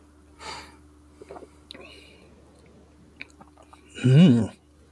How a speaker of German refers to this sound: Ich nehme jetzt einfach mal einen Schluck. Prost.